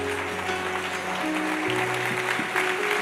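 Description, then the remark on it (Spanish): A church audience, standing, claps steadily as an applause of glory to God in a dense, continuous wash of applause, with sustained organ or keyboard tones holding chords underneath throughout. “Denle un fuertísimo aplauso de gloria.”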